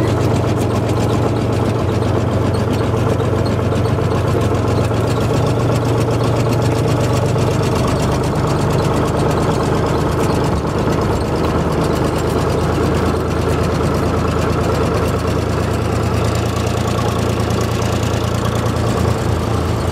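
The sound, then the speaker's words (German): A tractor engine runs steadily with a deep, throbbing low rumble, loud, continuing for the whole stretch as the tractor slowly pulls away and turns around a corner; no one speaks. “Als der Traktor losfuhr und jetzt langsam hier um die Ecke bog, sah man über eine Wiese tatsächlich schon jede Menge Rotwild, Hirsche und alles Mögliche herantraben.”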